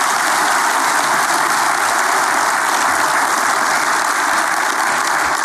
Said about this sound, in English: And first of all, before I say anything else, I would like us all to give a round of applause to Pastor Heffelfinger and the congregation at Orlando Grace Church for allowing us to use this facility.